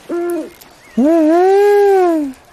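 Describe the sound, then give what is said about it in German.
A tawny owl in a large aviary hoots: one short, clear hoot, a brief pause, then a long, steady, wavering hoot that slowly fades. The tone is hollow and mid-pitched, loud against a quiet background, with no voices. “Ihren Ruf kennt man aus vielen Schauerfilmen.”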